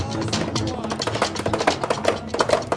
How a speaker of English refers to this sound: That's Hail to the Chief in dubstep.